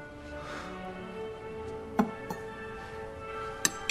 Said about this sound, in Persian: یه تیکه از استیکش رو می‌بره، با چنگال می‌خوره.